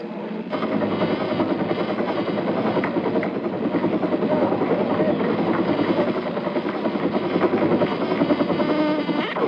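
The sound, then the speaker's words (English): A helicopter evacuating people out of Saigon during the fall of South Vietnam roars steadily, its rotor and engine drone loud and continuous from the first half-second onward, with a dense, rumbling texture and no pauses. “All told, more than 6,500 people, 1,000 of them Americans, were brought out of Saigon by helicopter.”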